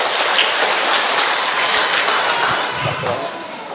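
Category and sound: crowd, applause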